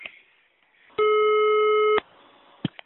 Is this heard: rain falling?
no